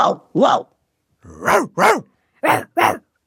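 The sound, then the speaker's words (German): A voice imitates a barking dog with three pairs of short, gruff, loud woofs, separated by brief pauses. “Ganz genau, oder ein bellender Hund.”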